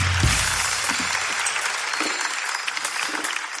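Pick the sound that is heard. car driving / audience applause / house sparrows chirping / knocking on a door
audience applause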